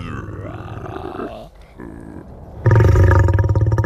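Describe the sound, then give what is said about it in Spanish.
A person growls and roars in imitation of a big cat, starting low and gravelly, then swelling into a loud, sustained roar near the end. “El rugido que no cesa.”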